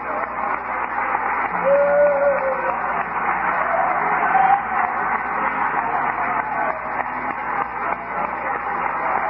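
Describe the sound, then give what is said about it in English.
An audience claps their hands in praise to the Lord during worship, a dense, steady wash of clapping that holds at an even loudness throughout, with a few voices faintly mixed in beneath it. “Clap our hands to the Lord, shall we?”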